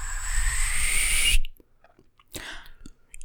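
A bird-call whistle: a long, clear, slightly rising tone holds for over a second and cuts off abruptly, then after a short pause a briefer, softer whistle follows. No voices.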